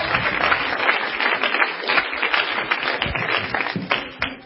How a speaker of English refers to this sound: Let's clap my hands to the Lord tonight. Would you do that, please?